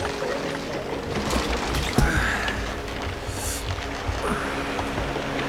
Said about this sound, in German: Schau mal, Julian, dort hält ein Motorboot an.